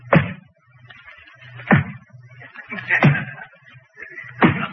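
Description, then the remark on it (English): A door opens as a man walks into the room, marked by four sharp, thudding clunks spaced about a second and a half apart over a low, steady hum. “As we were talking, he opened the door and walked into the room.”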